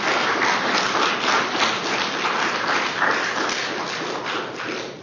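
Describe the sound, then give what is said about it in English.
Sustained, dense applause from a large crowd thanking those who have made music, many hands clapping at once in a steady loud roar that holds for the whole stretch and tapers slightly at the end, with no talking. “Their applause is a better blessing than my prayer.”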